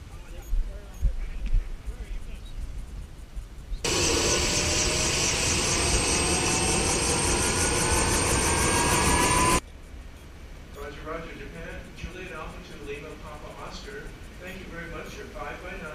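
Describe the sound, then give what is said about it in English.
A helicopter arrives to take the last three people off, a loud, dense rotor-and-engine din that holds steady for about six seconds before cutting off, with faint voices and background noise on either side. “Hey, here's the last helicopter in to take the last three of us off.”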